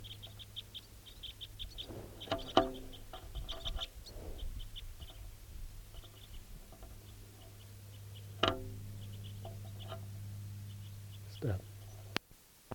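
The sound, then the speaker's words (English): Crossbills, sounding like call type 4, with juveniles, call in a steady run of short, high chirps and ticks, repeating throughout over a low, constant hum, with a few louder bumps and rustles in between. “Start recording those weird birds.”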